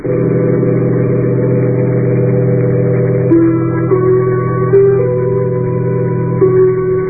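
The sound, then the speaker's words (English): A bus engine drones steadily, then revs up loudly in several rising steps as it shifts gears and pulls away, with no voices. “I'm getting off the bus.”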